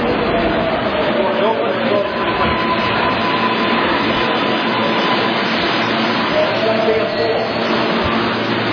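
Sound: train riding on rails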